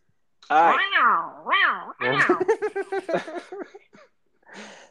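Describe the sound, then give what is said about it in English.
A person imitates a jaguar's roar, but it comes out as wavering, meow-like yowls followed by a quick stuttering growl, fairly loud, with a short breathy sound at the end. “Sounds more like a cat than a jaguar, I'll say.”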